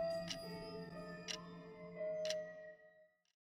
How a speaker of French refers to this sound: Et le jour, ah, si seulement il y avait suffisamment de silence dans les classes, en plus du tic-tac de l'horloge, on pourrait entendre le ricanement des gaccos, bien cachés dans leur banc.